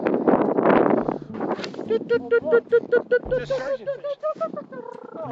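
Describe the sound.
A loud rush of strong, chilly wind buffets the microphone for about a second, then gives way to a voice talking over lighter, lingering outdoor wind noise.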